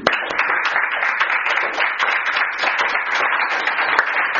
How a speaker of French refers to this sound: On les applaudit.